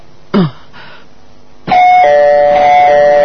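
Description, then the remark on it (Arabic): A doorbell, rung by the neighbours at the door, rings: a brief buzzy chirp, a short pause, then a loud, sustained electronic chime holding several steady tones that ring on to the end. No voices. “ترن ترن ترن ترن، هل نجلس خلف الباب؟”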